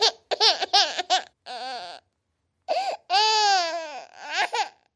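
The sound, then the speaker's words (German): A baby cries in a run of short, choppy bursts, then lets out a longer, rising and falling wail before breaking into more broken sobs. “Wenn ein Baby schreit, weil alle anderen Babys”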